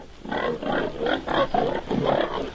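A pig grunts and squeals in a quick series of about five harsh, raspy bursts, fairly loud, with no voices.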